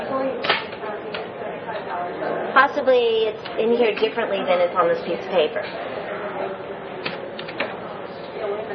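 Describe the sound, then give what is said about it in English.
Quick, irregular keyboard clicks as someone types in a number to look it up, under a person speaking, the keystrokes coming in short bursts across the whole stretch. “I tried to punch in this number and nothing came up.”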